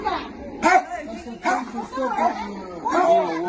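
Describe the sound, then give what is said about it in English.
A dog barks aggressively, three sharp, loud bursts spaced about a second apart, with rough growling tones stretching between them. “So first we have the aggression of a dog.”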